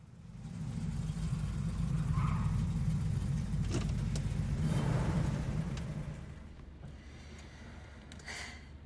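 car driving

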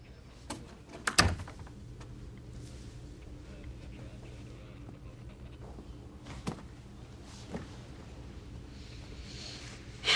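door closing

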